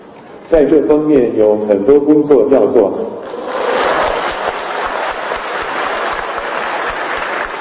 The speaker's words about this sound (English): Well, that was at a machine learning conference in China. It's not often, actually, at academic conferences that you do hear spontaneous applause.